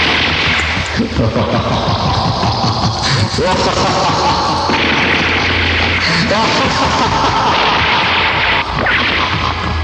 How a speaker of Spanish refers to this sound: ¡Disparen contra todos! ¡Uno de ellos es el verdadero calimán! ¡Que no escape! ¡Fuego! ¡Fuego!